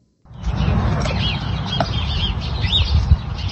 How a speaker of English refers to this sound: Here's some bird sounds, and can we get some love for beef cows out there in this world?